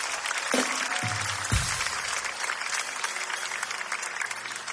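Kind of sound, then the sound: crowd, audience applause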